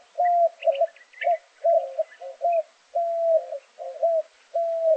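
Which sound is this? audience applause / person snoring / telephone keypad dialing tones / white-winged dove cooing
white-winged dove cooing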